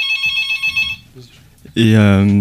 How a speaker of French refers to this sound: Désolé, le téléphone sonne. Ouh là là.